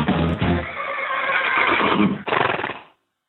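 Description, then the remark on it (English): A horse lets out a loud whinny lasting nearly three seconds, shrill and quavering, with a brief catch near the end before it fades into silence. No one speaks. “Well, I just posted a picture on our Horses in the Morning Facebook page, and this is who my daily Winnie is going to go out to.”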